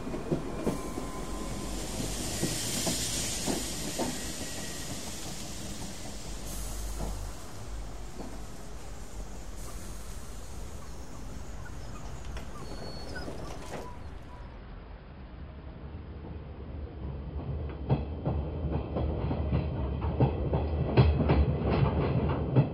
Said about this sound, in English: Ah, our train.